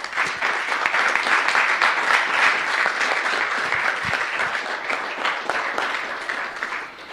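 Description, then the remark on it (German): An audience claps steadily for several seconds in thanks to the CCC e.V. in Germany for its support, a dense, even wash of many hands with no voices rising above it, holding at a fairly loud level before easing slightly at the end. “Also im Vorfeld und auch hier vor Ort ganz grandios, großen Applaus einmal.”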